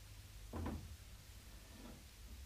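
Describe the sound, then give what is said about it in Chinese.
An unbolted door is pushed open with a brief wooden knock and creak, fairly loud, followed by a softer rustle or shuffle against a low steady background hum. “咦，冇闩门噶噃？”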